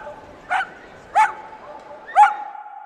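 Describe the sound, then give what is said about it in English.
Dogs bark outdoors at a dog park: three sharp, separate barks about a second apart, over a low background murmur of open-air ambience. “And finally, after an afternoon of pampering, it's time for a well-deserved trip to the dog park just around the corner.”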